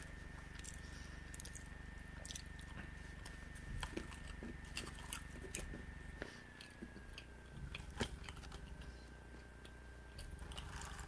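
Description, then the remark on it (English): Chewing of a crunchy nut during a death nut challenge, with irregular sharp cracks and crunches repeating for several seconds over a steady background hum, no one speaking. “He's chewing it. He's about to swallow it.”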